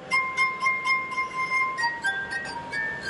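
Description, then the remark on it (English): Sustained, pure ringing tones of a glass harp, rubbed wine glasses, several pitches held and overlapping in a slow melody, clear with no talking. “There have been about 400 musical compositions written just for the glass harp.”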